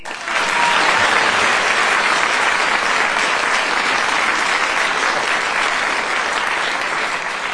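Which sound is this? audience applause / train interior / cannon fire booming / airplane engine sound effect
audience applause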